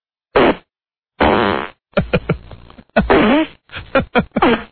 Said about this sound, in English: I'm going to give you a real one. Hold on. Here we go. Listen, you never heard this. Hey, this guy farting.